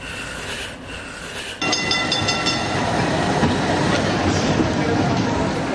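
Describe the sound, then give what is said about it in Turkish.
A tram rolls along street rails on İstiklal Avenue in Istanbul with a steady metallic rumble and high squealing, growing louder after a softer opening, with faint crowd murmur beneath. “İstiklal Caddesi, tramvay, insan kalabalığı.”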